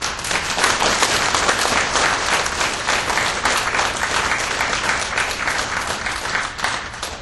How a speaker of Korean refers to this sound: 우리 박수로 환영합시다.